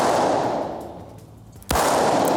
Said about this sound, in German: Natürlich nicht mit einer echten, sondern mit einer Schreckschusspistole. Er zielt damit auf den Boden. Also total ungefährlich, aber eben laut.